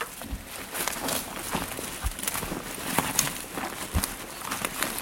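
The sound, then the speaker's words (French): Dry leaves crunch and crackle underfoot in a steady walking rhythm, each step giving a dull thump followed by brittle rustling. No voices are heard. “ce son très caractéristique de ces feuilles qui craquent quand on marche dessus”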